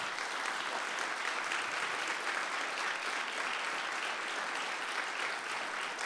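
Sustained applause from a standing audience honouring the evening's speaker and a pastor, a steady dense wash of many hands clapping at an even loudness throughout, with no voices rising above it.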